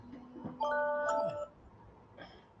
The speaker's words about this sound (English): It is not bedtime. No, it's my alarm to check my sugar.